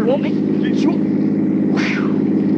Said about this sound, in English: Is that a car coming? Looks like a truck.